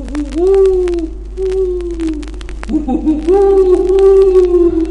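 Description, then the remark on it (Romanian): A black owl gives two long, drawn-out hoots in the darkness, each a steady wavering tone held for about two seconds, loud, with a brief break between them and faint background noise underneath. “Nu-i glas de porumbiță, e cânt de buhă neagră.”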